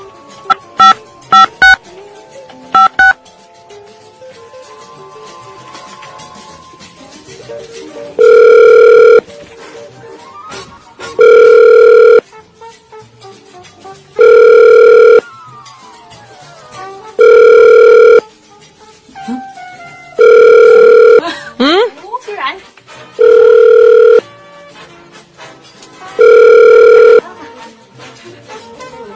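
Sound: phone call ringing unanswered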